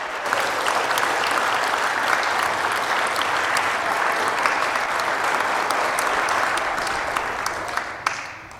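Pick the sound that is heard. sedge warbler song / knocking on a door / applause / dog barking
applause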